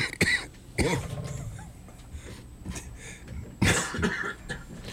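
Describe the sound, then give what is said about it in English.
Several harsh coughs and throat clearings burst out, a loud cluster at the start, a few softer ones in the middle, and another strong cough near the end. “Cough button works good.”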